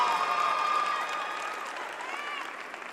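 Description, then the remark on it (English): An audience at Tennessee State University claps steadily for about three seconds as a woman comes up, a dense wash of applause with a few high voices and cheers mixed in, tapering off slightly toward the end. “And y'all give her a round of applause as she come.”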